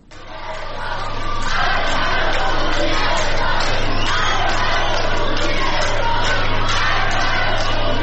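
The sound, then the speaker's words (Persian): A large crowd of passengers, including a group of women, chants slogans against the Islamic Republic in Sadeghieh metro station, in loud, rhythmic unison, voices blending into a sustained roar with repeated rising bursts and a steady low hum underneath throughout. “در ویدیوهای منتشر شده در شبکه‌های اجتماعی افراد مختلفی از جمله گروهی از زنان دیده می‌شوند که در میان عده زیادی از مسافران حاضر در ایستگاه مترو شعار می‌دهند.”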